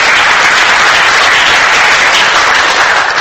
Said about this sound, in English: Why don't we put our hands together and thank God for his faithfulness? Just clap for him.